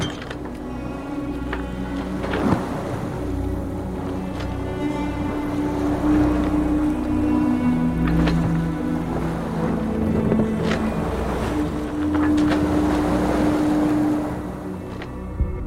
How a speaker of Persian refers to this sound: و کشتی ها را مسخر شما گردانید تا بر صفحه دریا به فرمان او حرکت کنند.